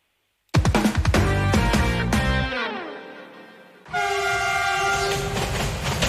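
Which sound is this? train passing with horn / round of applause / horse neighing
train passing with horn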